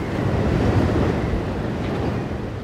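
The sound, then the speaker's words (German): A storm surge on the Hallig Hoge: heavy waves surge and crash continuously while strong wind roars and buffets the microphone, a dense, loud, unbroken wall of stormy sea noise with no voices. “Sturmflut auf Hoge.”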